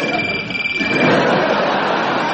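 A trilling, warbling trim phone ring, apparently imitated by a voice, buzzing steadily and fairly loud for a couple of seconds with a rough, croaky edge.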